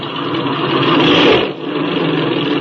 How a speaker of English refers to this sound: Now then, We'll run this engine up and see how she's hitting.